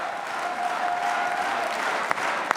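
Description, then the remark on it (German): Sustained applause from a large crowd at the CDU's Konrad-Adenauer-Haus headquarters shortly after 6 p.m. on the night of the 2025 Bundestag election, celebrating their candidate, a dense steady wash of clapping with a faint held tone running through it and a couple of sharper claps standing out near the end. “Aber sie feiern ihren Kandidaten mit großem Applaus.”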